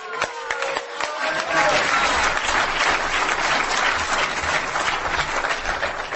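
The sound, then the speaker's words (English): An audience at a meeting bursts into steady applause to welcome the next speaker, from South River, New Jersey, many hands clapping together in a dense, sustained roar that holds strong for several seconds, with a few voices faintly mixed in at the start. “Big applause.”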